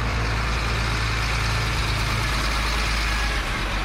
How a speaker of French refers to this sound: Gros camions de transport sur la frontière avec la RDC poussent les quelques handicapés burundais et congolais à se déplacer dans un autre endroit pour l'interview de VOA Afrique.